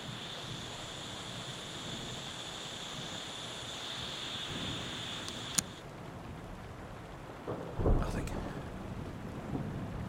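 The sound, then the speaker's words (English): A thunderstorm with a steady wash of rain and a deep, rumbling roll of thunder late on. A thin high whine cuts out abruptly with a click partway through. “Storm. Could be something else.”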